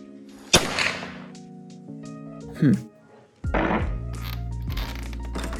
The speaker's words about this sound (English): Hey, you sure this isn't a Pelican recording? Believe it or not, this is what actual guns sound like. Puny and kind of lame.